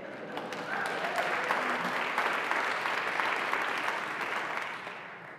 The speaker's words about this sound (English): I'm not sure if you're applauding just because I'm still alive or...